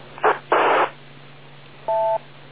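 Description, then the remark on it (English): Two short bursts of radio static crackle over a steady low hum, then a clean electronic two-tone beep sounds briefly after a pause as the transmitting station lets go of the microphone, fairly loud on a narrow, telephone-like channel. “Because I hear like a double beep when you let go of the microphone.”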